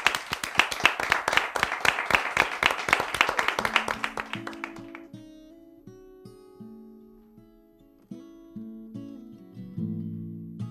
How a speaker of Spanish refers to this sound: ¡Un aplauso! ¡Bravo!